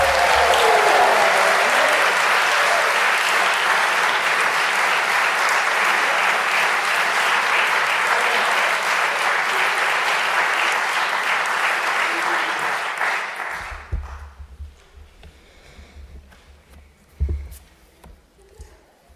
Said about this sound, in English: So I'd just like to end by just giving Mum a great big round of applause.